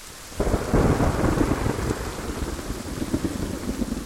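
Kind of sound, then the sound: nature, rain and rolling thunder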